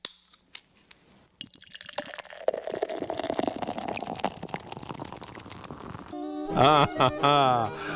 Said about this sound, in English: Well, the beer pouring into the glass, I tell you what, it's no secret that a lot of people in Wisconsin like beer, and more we like craft beer.